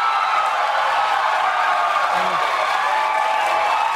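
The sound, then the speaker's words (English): The Daily Show studio audience cheers and applauds as Jon Stewart comes out on stage, in a steady, unbroken roar of many voices and clapping hands that holds at an even loudness throughout, with no clear speech over it. “Why are they cheering already?”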